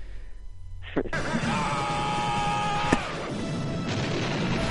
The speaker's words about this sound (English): And we'll send you out on some good Stallone yells.